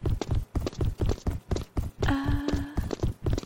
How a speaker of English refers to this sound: I hear feet. Maybe it's nothing though.